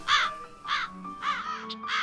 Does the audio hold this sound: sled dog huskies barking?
no